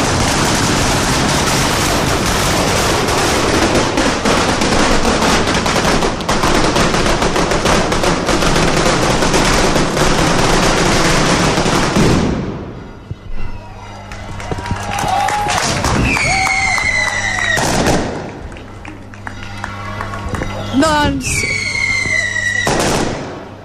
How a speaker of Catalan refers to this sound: Petards anunciant l'inici de la Festa Major de Móra d'Ebre. Olor a pólvora, Joan. Molta pólvora, molt de soroll.